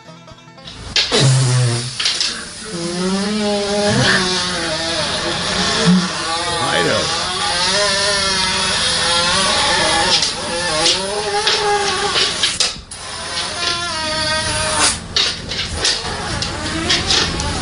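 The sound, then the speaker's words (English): A dog's long, unbroken fart lasts around sixteen seconds, a loud buzzing tone whose pitch wobbles up and down and sputters near the end, with a voice briefly heard at the start. “About a dog that let out an impressive 18-second long fart.”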